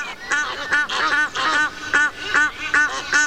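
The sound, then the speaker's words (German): Three mating Egyptian geese, one female and two males, honk and call in a rapid, insistent series, harsh repeated cries overlapping one another, loud with no pause between them. “Wir haben zum Beispiel sich paarende Nilgänse aufgenommen.”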